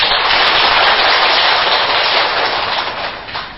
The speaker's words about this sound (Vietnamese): Hiện diện ở đạo tràng của chúng ta bây giờ là 57 vị, và có một vị nhỏ xíu nữa là 58 vị, gần 60. Như vậy thì xin tán thán quý vị Phật tử một tràng pháo tay.